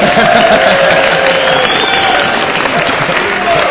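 A large audience applauds and cheers steadily, a dense, loud wash of clapping mixed with whoops and voices that holds at full strength for several seconds without letting up.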